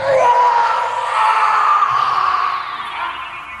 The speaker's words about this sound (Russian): Вдруг тишину ночи прорезал ужасный хриплый крик, которого я не слышал никогда в жизни.